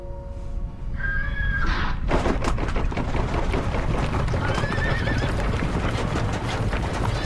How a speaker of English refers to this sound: Felt like the earth was rumbling, like horses were galloping. What horses got out? They're all here. I heard galloping.